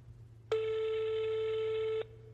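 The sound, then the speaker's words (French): A single telephone ringback tone on an outgoing call that a man places to his wife while on the road: one steady, mid-pitched beep lasting about a second and a half, then silence, over a faint low hum with no voices. “Sur la route, il essaye de l'appeler.”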